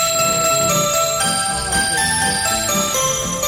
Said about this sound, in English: I want to hear that Asian Jingle Bells.